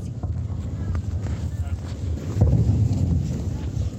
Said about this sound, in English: After sunset, we can hear the sound of RSF drones in the distance. And the army is returning fire, as you can hear.